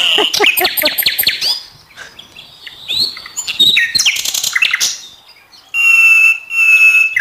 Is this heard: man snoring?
no